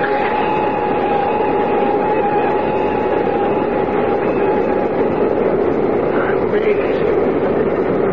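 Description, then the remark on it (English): A steady, loud roar of an airplane rolling down a runway after landing while the brakes are pushed hard, with a sustained mid-pitched whine riding over the rumble for the whole stretch and no pauses. “The plane is down.”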